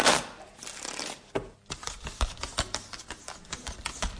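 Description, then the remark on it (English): A deck of playing cards is shuffled for a game of poker: a soft continuous riffle first, then a brisk series of crisp snaps and taps as the cards are cut and squared, with no voices. “Shuffle them first.”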